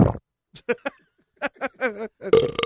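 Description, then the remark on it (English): A string of short, croaky burps with a gurgling, voiced quality, separated by brief pauses, ending in a louder, rougher belch as air comes up after a lot of air was swallowed. “She's got that one big one coming up. Swallowed a lot of air.”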